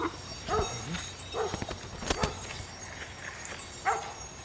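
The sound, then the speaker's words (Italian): Sheep bells clank irregularly with a few sharp metallic knocks, and three dogs that were lying beside the sheep set off at the sound, giving several short yelps and barks over a hissy outdoor background. “I tre cani accovacciati, sonnolenti, accanto alle pecore, al suono delle campanelle sono partiti a razzo.”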